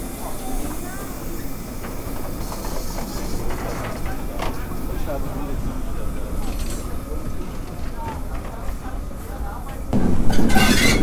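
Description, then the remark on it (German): Steam locomotive 58311, running tender first on a special run with people riding in its cab, clatters by with a steady, dense rattle and hissing rumble of wheels and rods, holding loud throughout and swelling louder in the final second. “Hier knattert gerade die 58311 Tender voraus an uns vorbei.”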